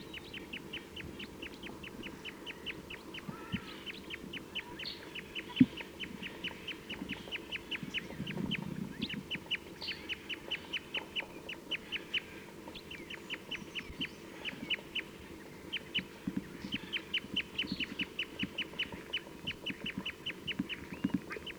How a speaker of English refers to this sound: This recording, I've been playing back some calls to these birds and they've flown to a different tree, and there's 5 in the flock pointed at them right now.